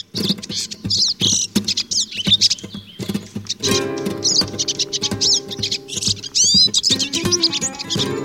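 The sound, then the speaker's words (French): A European goldfinch sings a rapid, twittering song of tinkling chirps and buzzy trills, fairly loud, continuing without pause over a faint low background hum. “Et c'est un oiseau qui est réputé pour son chant, particulièrement la sous-espèce qui s'appelle Cardulis parva, le chardonneret qui se trouve au Maghreb et en Espagne, Portugal, la zone géographique, voilà, plus contour méditerranéen.”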